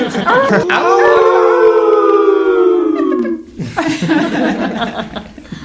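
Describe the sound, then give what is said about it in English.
A group of people on the East County Magazine Show on KNSJ lets out a long, loud howl of appreciation, imitating coyotes, with the pitch sliding downward for about three seconds before breaking into chuckles and laughter. “We have a big owl of appreciation.”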